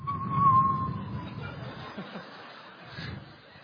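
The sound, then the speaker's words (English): A thin, steady whistle lasting about a second, like wind whistling past a window in an old castle, fading into soft breathy rumble and faint murmuring. It may be a person imitating the wind. “And often when they went past the window, the wind would whistle.”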